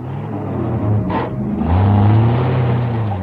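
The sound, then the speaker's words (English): A car engine rumbles, then revs up with a rising pitch and pulls away, the low growl swelling louder as it accelerates. A brief hissy burst cuts in early on. “We'll use your car. You drive, I'll guide.”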